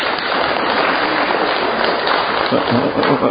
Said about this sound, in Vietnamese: Cho một tràng vỗ tay thưa anh chị em.